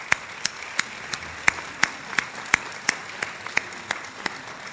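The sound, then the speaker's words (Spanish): Applause from an audience for a speaker who is about to talk, heard as a thin, steady run of sharp claps at roughly three per second, evenly paced and moderately loud, with no voices over it. “Así que le damos un aplauso y nos disponemos a escucharle.”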